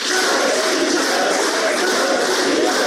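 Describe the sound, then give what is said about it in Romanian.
Dense, sustained applause from a large audience at a Gagauz festivity, applauding Alexandru Andreev, counselor of the Russian Embassy in Chișinău, Moldova; a steady wash of many hands clapping at once without pause, loud and even throughout, with no voices standing out. “Alexandru Andreev, consilier al Ambasadei Federației Ruse la Chișinău, aplaudat intens la festivitate.”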